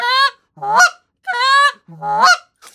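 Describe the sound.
Four loud goose-call honks mixing in a half-note honk as heard from real geese, in an alternating rhythm: short, clipped high notes trading with honks that start low and break sharply upward. No talking.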